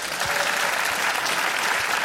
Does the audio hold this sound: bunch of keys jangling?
no